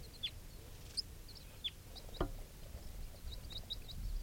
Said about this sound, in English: Recording two type 4 birds are flying around right here by the net.